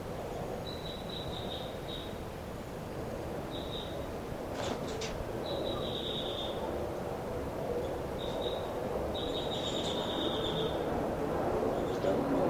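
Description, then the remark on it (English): A bird, 5-9, gives bursts of short, high-pitched chirping calls as it flies around the cell, repeated several times with brief pauses, over a steady, fairly loud background hum. “This is the calls of 5-9 as he flies around the cell.”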